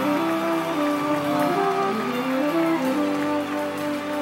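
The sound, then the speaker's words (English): A crowd claps hands steadily, a dense crackling patter running under sustained, humming musical tones for the whole stretch. “Can we clap our hands?”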